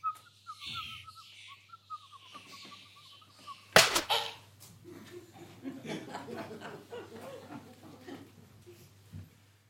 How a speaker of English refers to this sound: Come, Berecynthia, let us in likewise, and hear the nightingale record her notes.